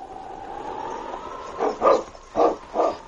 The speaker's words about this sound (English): It was 2 days later when the mighty lead dog King set the pace for Sergeant Preston's team of huskies. On King! On, you huskies!